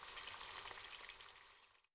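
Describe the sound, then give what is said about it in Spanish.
Food sizzles and crackles steadily in a hot pan as a meal is prepared, a dense hiss with fine popping that runs for a couple of seconds and then cuts off abruptly. “Preparo la comida con mi madre.”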